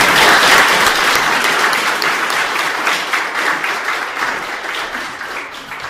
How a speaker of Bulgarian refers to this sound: И искам да ви помоля всички да поздравим и да ръкопляскаме на невероятното жури, което имахме тази година.